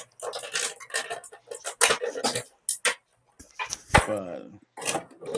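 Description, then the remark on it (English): A dog lets out a rapid run of short yips and barks, breaking into high, drawn-out whimpering whines in between, fairly loud and with no one talking. “Where'd my dog go?”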